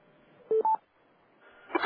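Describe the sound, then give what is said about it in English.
Two quick telephone keypad DTMF tones beep one after the other, the second slightly higher, as #6 is pressed on a conference call to ask a question. After a short pause comes a burst of muffled noise as someone comes on the line. “you'll first need to hit #6, and then we ask that you identify yourself and your organization, and you'll be able to ask your question directly.”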